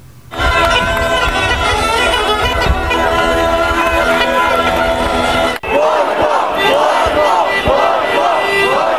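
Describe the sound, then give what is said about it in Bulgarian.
A large crowd of about 2,000 government supporters, bused in from across the country, fills the square in front of parliament and chants and shouts loudly and continuously, a dense roar of many voices with sustained, droning tones; after a brief break midway, the rhythmic chanting resumes strongly. “По обед с автобуси от цялата страна пристигнаха симпатизанти на управляващите, които изпълниха площада пред парламента.”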